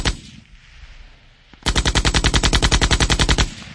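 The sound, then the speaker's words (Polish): A sustained burst of tank-mounted machine gun fire, by protesters in Poznań shooting at the Voivodeship Office of Public Security on Kochanowskiego Street, erupts after a low rumbling lead-in, with rapid, evenly spaced loud shots continuing for about two seconds before cutting off. “Z zamontowanych w nich karabinów maszynowych usiłowali ostrzeliwać gmach Wojewódzkiego Urzędu Bezpieczeństwa Publicznego przy ulicy Kochanowskiego.”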